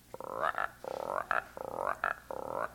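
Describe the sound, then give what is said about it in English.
Frogs croak in four rapid, pulsing bursts, each rattling call rising slightly in pitch before a short pause. The calls are clear, with no talking. “Frogs, all kinds of frogs, big ones, little ones, and medium-sized ones.”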